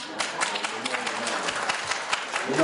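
An audience claps steadily, a dense patter of many hands at moderate loudness, sustained throughout without pause.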